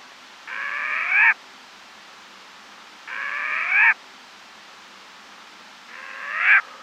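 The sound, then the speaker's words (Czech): A nesting female bird gives three harsh, barking calls, each under a second long and swelling louder toward its end, repeated at a slow, even pace with quiet gaps between. “Samice sedící téměř měsíc na hnízdě se ozývá štěkavým voláním, kterým také žádá samce o přinesenou potravu.”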